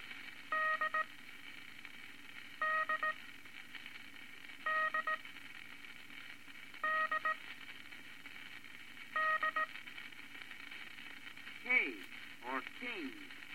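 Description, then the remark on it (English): International Morse code characters sent as five short, evenly spaced bursts of a buzzy, steady tone with quiet gaps between them, followed by a brief voice at the end. “second unit of International Morse code consists of 7 letters.”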